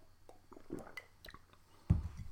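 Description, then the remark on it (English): Someone sips coffee from a cup: soft wet slurping and small mouth clicks, then a louder gulp near the end, with no talking. “Let me take a coffee sip and think.”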